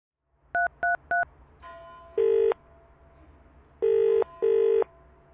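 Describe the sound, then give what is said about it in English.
Three quick, identical telephone keypad tones beep in an even rhythm as the emergency number 999 is dialed. An open line hum follows, then loud ringing tones in paired bursts. No one speaks. “Telephone 999.”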